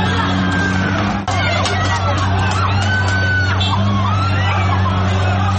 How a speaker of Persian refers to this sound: مواردی هم این گونه با شلیک گلوله. چه فازیه که تیر دارن میزنن. تیر دارن میزنن به مردم.